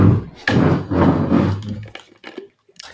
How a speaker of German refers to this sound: Ich muss kurz die Tür aufmachen, es hat geklingelt.